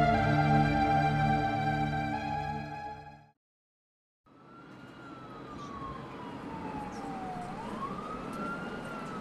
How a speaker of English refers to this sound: High-rise buildings line the street. First responder sirens can be heard in the distance.